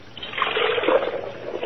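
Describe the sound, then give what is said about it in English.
Water pours steadily for a couple of seconds in a laboratory, a moderately loud trickling splash with a bright, hissy texture and no voices. “Water. Water?”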